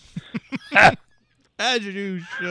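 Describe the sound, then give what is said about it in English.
A rooster crowing sound effect played from a button: one long, loud call, preceded by a few quick clucking sounds and a short rustling burst, with a brief pause between them. “I may have to press Rooster. A button.”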